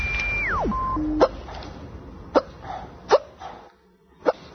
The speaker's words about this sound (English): That, that chick with the hiccups. Poor girl. She was on the Today Show today. She's still hiccuping. They're trying real hard not to laugh at her.